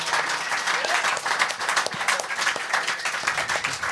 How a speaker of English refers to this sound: Can you all give yourself a round of applause for coming out, ladies and gentlemen? Thank you very much.